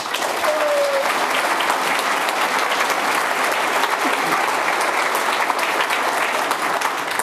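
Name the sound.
warm applause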